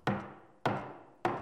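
Three firm knocks on a door, evenly spaced about half a second apart, each a sharp thud with a short resonant ring, and no voices.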